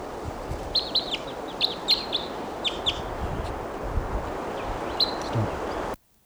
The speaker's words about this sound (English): And meanwhile, here's another bird coming in. Little decoys there.